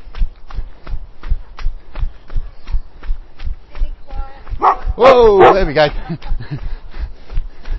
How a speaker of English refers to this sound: Barked at by an old Labrador.